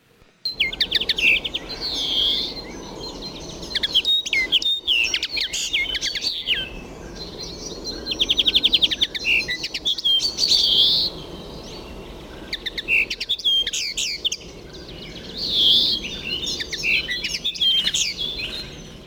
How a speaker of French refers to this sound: Ce chant, plutôt agréable, est celui du verdier d'Europe. Il est plus grand que les espèces citées précédemment, c'est un passereau qui pèse une trentaine de grammes.